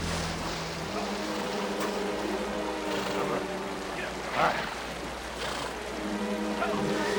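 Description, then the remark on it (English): A fast, shallow river crossing the trail back to the town of Golden rushes and churns steadily, with splashing surges as riders on horseback wade across it and a low droning hum running underneath throughout. “A fast-moving shallow river crosses the trail back to the town of Golden.”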